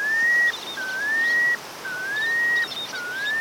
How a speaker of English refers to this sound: Count yourself lucky if you see or hear the melodious piping plover. They have a very distinctive and melodic call. In fact, their scientific name is Charadrius mellitus.